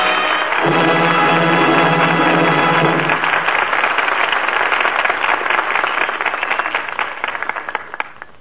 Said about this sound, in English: That applause is the seal of approval on tonight's play, and the fine performances of the four players who return now to this microphone. Miriam Hopkins, Francho Tone, Ann Baxter, and Chester Morris.